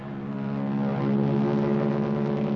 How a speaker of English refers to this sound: Then the Royal Canadian Air Force will fly overhead towing a 10-ton maraschino cherry, which will be dropped into the whipped cream to the cheering of 25,000 extras. All right, cue the mountain. Cue the Air Force.